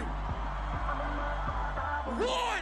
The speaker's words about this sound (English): On the count of three, I wanna hear all you scream. 1, 2, 3!